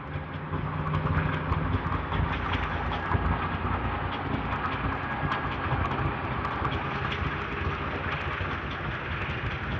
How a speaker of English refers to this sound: Got a lot of noise this morning. Walking past a dump truck, parked beside the road.